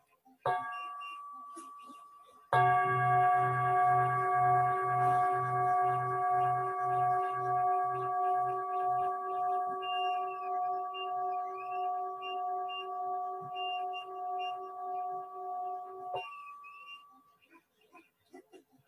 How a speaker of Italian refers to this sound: Allora sentiamo un suono di campana e poi comincerò la lettura.